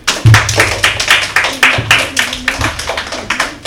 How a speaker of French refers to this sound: C'est une bonne réponse. On peut les applaudir.